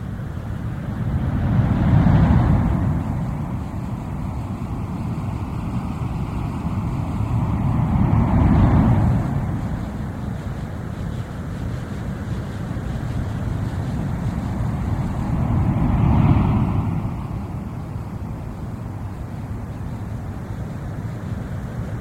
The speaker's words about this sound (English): The sound of ocean surf, of waves, a natural sound most people find pleasing and relaxing. It is a sound of natural energy, a natural energy always present when the ocean meets the shore, the sound of waves of energy in action.